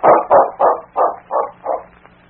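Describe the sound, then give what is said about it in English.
King, Sergeant Preston's big dog, barks six times in a quick, steady rhythm, each bark a short full-throated woof, growing slightly softer toward the end, with no voices present. “The desk clerk at the Northern Hotel smiled as Sergeant Preston and his big dog, King, approached him in the lobby.”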